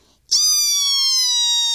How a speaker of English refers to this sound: So she'd shut the light, and it would grow so dark. And then she'd close the squeaky door.